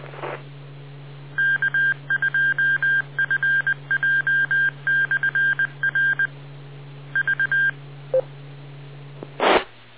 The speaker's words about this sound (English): My Morse code's a little rusty. Was that a K call sign out there? Real noisy, anybody?